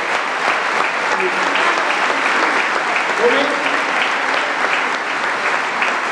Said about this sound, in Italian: Alcuni comuni, ecco, fatevi un applauso, perché tutto un applauso per voi.